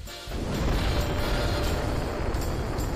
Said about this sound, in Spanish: Señoras y señores, ponme la explosión.